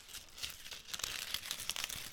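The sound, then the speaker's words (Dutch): A dry, brown, crinkly leaf in a garden in winter crinkles and crackles as Rinkel tramples on it with all its little feet, a continuous papery rustle with sharp little snaps scattered throughout, fairly soft and with no voices. “Rinkel trappelt nu met al zijn pootjes op het blaadje waarop ze zitten.”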